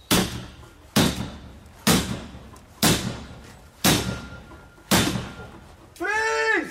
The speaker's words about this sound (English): She wasn't the one who was with the battering ram into the door. I think she would wanted to. I think they call it the enforcer, where they ram the door.